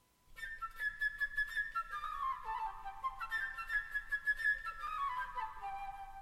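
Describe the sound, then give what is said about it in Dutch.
A solo flute plays a bright, chirping bird melody with rapid trills and quick runs that swoop downward, repeating the figure twice, clear with no voices. “De vogel wordt gespeeld door een fluit.”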